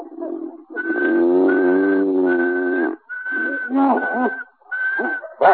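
A person whistles one steady, unchanging pitch in several long held bursts, separated by short breaks, to stop another person's snoring, while a lower, wavering whining sound runs underneath.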